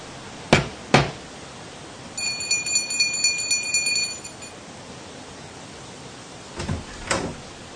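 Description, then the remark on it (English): Two sharp knocks on Owl's door, then a bright, high electric bell rings in a rapid trill for about two seconds, followed by two more knocks. No one speaks. “And in a little while they were knocking and ringing very cheerfully at Owl's door.”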